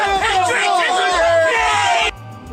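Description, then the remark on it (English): A large crowd chants and shouts "USA" loudly in unison, a dense wall of voices with a repeating rhythmic beat, energetic, then it cuts off abruptly near the end. “USA! USA! USA! USA! USA! USA! Shouting USA is the only thing!”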